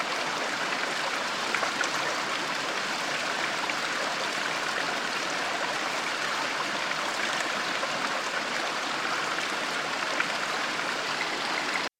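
Steady, dense rushing and bubbling of churning whirlpool water at the municipal swimming pool of Chalon-sur-Saône during off-peak hours, loud, holding constant for the whole stretch with no voices and no pauses.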